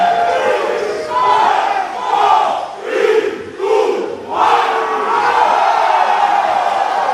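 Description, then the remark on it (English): A large crowd of soccer fans with flags chants together in the rain at a Pro League match in Melbourne between the Solomon Kings and Papua New Guinea's Hikari, in loud, rhythmic bursts, voices rising and falling in a steady pulse before swelling into a sustained roar. “Even when it turned into a downpour, the flags were out and the chanting got louder.”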